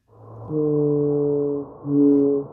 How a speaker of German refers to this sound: Wale können mit ihrem Gesang Aufschluss geben über den Zustand des Klimas und ihres Ökosystems.